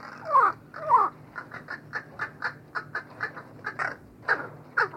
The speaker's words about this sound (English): And a crow's song is particular to its social group. Studies of captive groups show that each group develops distinctive sound elements that become a kind of cultural tradition, a dialect which crows use to recognize one another.